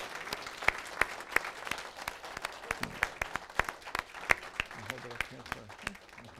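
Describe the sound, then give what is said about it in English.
An audience at an Evangelical Free Church of America ordination service applauds steadily for several seconds, with many sharp, irregular hand claps forming a continuous patter. Faint voices can be heard under the clapping toward the end. “Let's clap. Can we do that?”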